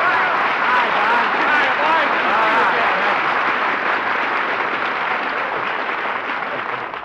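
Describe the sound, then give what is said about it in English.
Sustained applause from a studio audience, a dense, steady wash of many hands clapping, holding loud for about seven seconds before easing slightly at the end. “You know, applause is food for an actor, so thanks for the lunch.”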